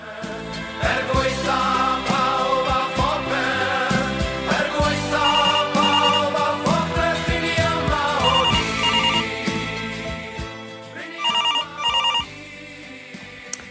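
A telephone ringing on the line as a call is placed to someone in the same apartment, heard as a steady, fairly loud melodic ring tune that plays continuously for about ten seconds, then fades into a few short final tones. No one speaks.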